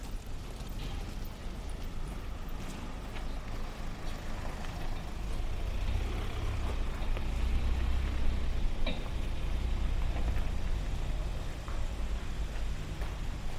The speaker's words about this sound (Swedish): Nu är jag omgiven av bilar. Jag går tillbaka in här på Svartmannagatan. Och väntar lite så får bilen åka förbi.